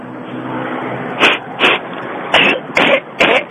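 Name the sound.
person blowing their nose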